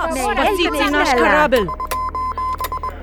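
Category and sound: signal or alarm, morse code beeps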